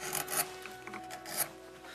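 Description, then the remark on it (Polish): Steady rasping strokes against linden (lime) wood as it is carved, a few scraping passes in a row with brief pauses between them, bright and dry in texture, with no one talking. “No i ja lubię na przykład zapach lipy. I to jest ten dźwięk, który uspokaja, który jest miły.”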